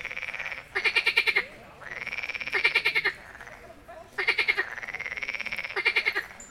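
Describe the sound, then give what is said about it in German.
Frogs croak loudly and steadily at a pond in the evening, a chorus of rapid pulsing calls overlapping in repeated bursts of about a second each, with no voices. “Und es fühlt sich an, als würde sie dabei von den Fröschen am Weiher auch noch ausgelacht.”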